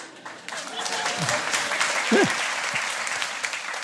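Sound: audience applause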